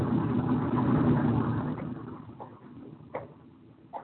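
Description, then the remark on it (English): A truck engine idles with a steady low rumble, loud at first and then easing off, while a few short knocks punctuate the quieter end. “Watch the truck there.”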